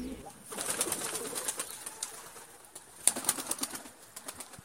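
Doves or pigeons coo softly in a steady murmur, with bursts of fluttering wings and scuffling, moderately quiet, with no voices present.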